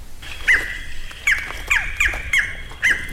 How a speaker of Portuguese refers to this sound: A conversa flui entre a imagem de som eletrônica do falcão caburé e o falcão caburé presente na mata. A um ponto não dá para saber quem é quem. E por fim, o falcão da mata deixa o colega eletrônico falando sozinho.